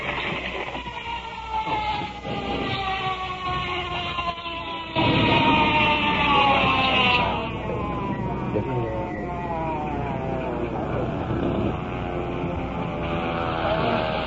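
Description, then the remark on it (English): A wailing ambulance siren rises and falls in sweeping tones, starting distant and growing louder as it approaches, over a steady rumble of background noise. “In the distance, the ambulance.”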